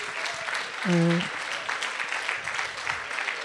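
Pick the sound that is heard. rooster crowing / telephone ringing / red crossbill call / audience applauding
audience applauding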